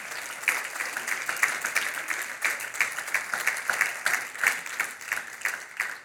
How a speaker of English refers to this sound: There's no round of applause that's enough for your time.